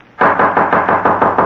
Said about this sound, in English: Suddenly a loud knocking at his door startled him.